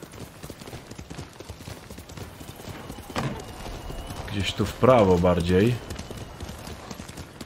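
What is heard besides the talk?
horse hooves clip-clopping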